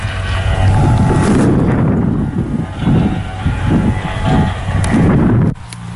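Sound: wind blowing outdoors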